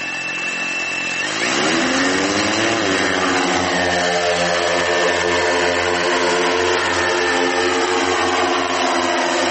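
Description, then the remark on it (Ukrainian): A drone's propellers spin up with a rising, high-pitched buzzing whine that swells quickly, then holds a loud, steady droning hum as it lifts off and flies automatically on a pre-programmed route, near Chasiv Yar in Ukraine. No voices. “Безпілотник готов.”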